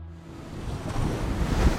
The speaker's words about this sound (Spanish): A càmera lenta, una onada espetega contra un escull. A vista d'ocell, el mar embravit pica contra les roques.